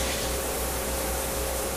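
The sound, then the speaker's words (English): A steady, loud hiss of rushing spray from the rinsing stage of a decontamination chamber fills the space without a break, layered over a low mechanical hum and a faint tonal whine, with no voices present. “Stage 1, rinsing.”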